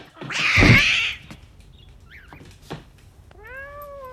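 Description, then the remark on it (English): A cat is dropped and lets out a loud, harsh screech lasting about a second, followed by a small thump and then a short, quieter meow near the end. “drops the cat.”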